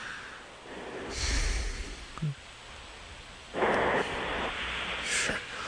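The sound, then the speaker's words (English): A person snores, with a few rough, rasping breaths spread unevenly over several seconds against a low background rumble. No one speaks. “Now, that's snoring. It's in the cadence of a snore.”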